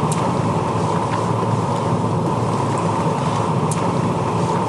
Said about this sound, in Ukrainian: У вас такая красивая машина. Спасибо. Это Феррари? Не, это Бентли. Никогда не слышала.